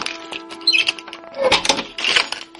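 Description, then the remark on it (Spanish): A door being opened, with a few clicks and rattles of the handle and lock and a short high squeak, then two louder scraping bursts as it swings. “Abrimos la puerta.”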